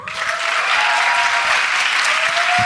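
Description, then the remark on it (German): Steady, loud audience applause fills the whole stretch, a dense wash of many hands clapping at once with no voices standing out above it. “Jetzt euer Applaus für Steffen und seine Freundin.”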